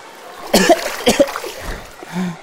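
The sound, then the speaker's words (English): Two harsh, wet, spluttering coughs burst out in quick succession from a swimmer who has swallowed water, followed by a faint gurgle and a short, low groan. “J'ai bu la tasse.”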